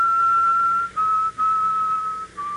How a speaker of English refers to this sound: The only means of identifying him, however, is his peculiar habit of almost continually whistling the mournful strains of a funeral march.